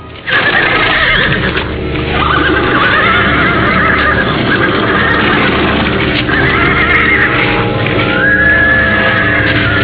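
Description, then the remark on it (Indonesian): Horses whinny repeatedly in high, wavering cries over a steady, loud bed of hoof clip-clops and movement, continuous throughout, as four men jump down from the horses. “Empat orang laki-laki bertampang sangar itu berlompatan turun dari kuda.”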